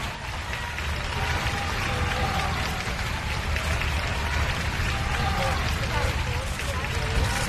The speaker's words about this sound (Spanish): Hubo luego un pequeño desfile de apenas 515 soldados, la patrulla Águila dibujó la bandera en el cielo y varios centenares de personas que se habían dado cita para el acto por las calles vitorearon a Felipe VI.